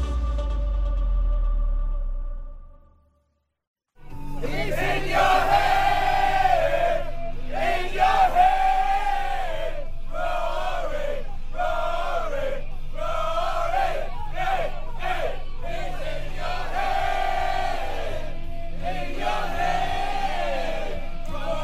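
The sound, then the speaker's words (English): Europe's golf team sings and cheers on the Europe team bus, Shane Lowry singing to Rory: a rowdy group of men in loud, ragged unison, voices rising and falling in chant-like phrases, after a brief low rumble and a moment of silence. “That was Shane Lowry singing to Rory on the Europe bus.”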